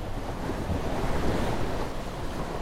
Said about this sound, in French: Le vent fait rage. L'air s'épaissit en ténèbres. La pluie s'abat en rafales. Haubans et boulines se rompent.